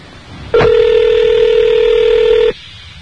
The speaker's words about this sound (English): You got it ringing? Put it on. Okay. Beautifully. Beautifully executed. Ah. 10 seconds. She got 30 seconds to answer the phone. Technically, now she has 20 seconds.